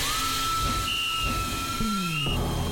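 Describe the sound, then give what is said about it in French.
A steam locomotive hisses steadily while a long, sustained whistle tone sounds over it, joined by a second higher whistle note, with low rumbling chuffs underneath. “À toute vapeur, Swiss Vapor Park, le plus grand parc ferroviaire d'Europe, est ouvert tous les jours dès 10h et avec de nouveaux trains.”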